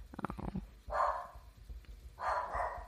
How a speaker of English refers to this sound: sorry, can you hear my dog?